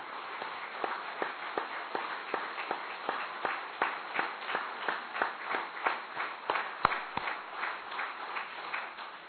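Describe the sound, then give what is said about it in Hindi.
A group claps hands loudly and steadily for several seconds at a speaker's request, sharp rhythmic claps standing out over a continuous wash of scattered clapping, with no voices. “ठीक है भाई, तो एक बार जोर से तालियां बजाएंगे सारे अच्छे तरह से।”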